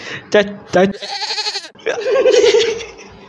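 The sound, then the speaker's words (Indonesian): Three goats bleat repeatedly: two short, sharp calls followed by longer, wavering, quavering bleats, fairly loud and overlapping one another. “Tiga buah tiga, nih. Tiga kambing.”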